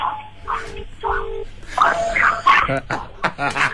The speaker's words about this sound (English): Listen to those dogs. It sounds scary, don't they?